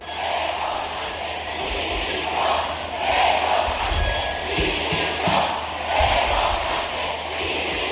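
A large crowd at a protest march shouts in unison against President Pedro Sánchez, rising and falling in rhythmic waves of chanting voices, with occasional low thuds beneath the steady roar.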